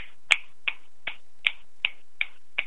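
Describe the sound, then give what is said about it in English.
An audience at a spoken word event snaps their fingers together in a steady rhythm, about seven crisp, sharp snaps landing roughly evenly over a couple of seconds, with no talking in between. “We need a crowd of snaps. Just snap. Everybody snap with us.”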